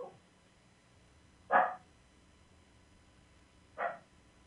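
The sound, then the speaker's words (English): A dog barks twice, two short separate barks a couple of seconds apart, standing out clearly against otherwise quiet surroundings with no one talking. “That's a wonderful dog.”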